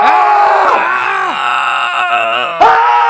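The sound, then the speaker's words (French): Loud, sustained human screams and groans with wavering, sliding pitch, several voices overlapping in a continuous anguished wail that breaks off briefly and then surges again, heard far off at night from a group of people about 400-500 metres away in a forest. “Puis dans le milieu de la nuit, alors qu'on dort, tout le monde dort, on entend au loin des cris.”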